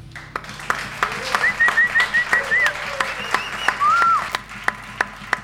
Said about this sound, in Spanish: Desde ya les agradezco que estén acá a todos, al público y a todos los músicos que aceptaron colaborar, y les pido un aplauso para Armusa.